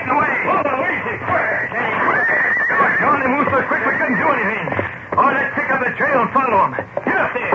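horses squealing and neighing

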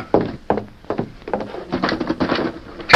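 door being closed

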